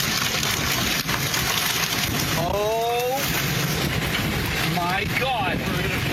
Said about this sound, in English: In central Missouri, a father and son caught in a twister at a Rolla gas station. Look at all that debris.